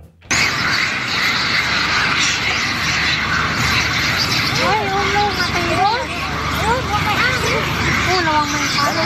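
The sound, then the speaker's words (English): A dense, continuous chorus of hundreds of monkeys screaming at once, squaring up on either side, a steady wall of shrill noise with individual wavering, rising and falling cries standing out more clearly in the second half. “Andrew has screaming monkeys.”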